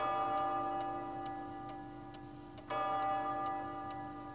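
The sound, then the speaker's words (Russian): A clock ticks steadily at a regular, unhurried pace, each tick crisp, over a constant low hum with no voices. “Все мои часы хорошо идут, поэтому я ничего против этого не имею”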